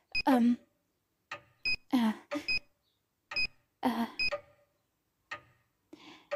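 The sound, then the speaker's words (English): The emergency alarm of a stuck lift whose lights went out, set off by pressing the emergency button, sounds in short, irregular electronic bursts, sharp, some brief beeps and others longer warbling rings, with quiet gaps between them. “I'll press the emergency button.”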